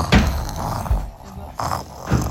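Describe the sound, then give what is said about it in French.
A voice imitates a wolf snoring very loudly, a rhythmic series of rasping, throaty breaths repeating about every half second or so, with no words spoken. “Rassasié, le loup s'endormit et se mit à ronfler très fort.”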